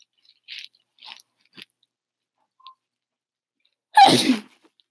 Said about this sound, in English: Bless you. Thank you.